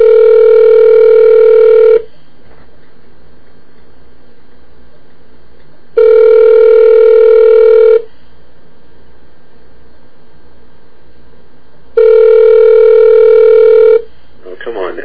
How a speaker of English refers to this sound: somebody's got to pick up that phone.